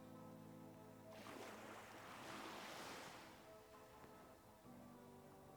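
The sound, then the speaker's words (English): Ocean waves crash onto the shore of a beach by a sandy spit, a broad surge of rushing surf swelling in the middle and fading back, with a steady low hum underneath and no voices. “The waves crashing onto the shore create a peaceful atmosphere.”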